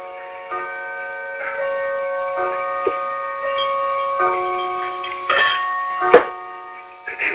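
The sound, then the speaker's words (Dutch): A clock chimes, with repeated struck tones whose bright, sustained ringing overlaps and hangs in the air for several seconds, steady, with no one talking. “Nou, die klok die ben ook weer verluiden.”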